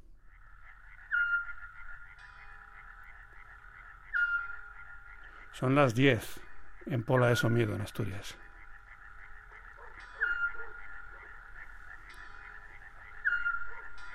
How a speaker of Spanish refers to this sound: El autillo es un búho muy pequeñito que llega del tamaño más pequeño que una paloma, que llega en abril a España, al sur de Europa, y ahora ya está silbando con una nota, una sola nota líquida repetida muchas veces.